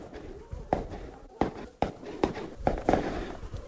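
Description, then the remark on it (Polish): Half a dozen sharp gunshots crack at irregular intervals from shooting practice at an Israeli police post near Jerusalem, about 300 metres away, over a rough outdoor background with possible faint voices. “To jest posterunek policyjny izraelski, na którym w tej chwili odbywają się ćwiczenia strzeleckie, jak słyszymy.”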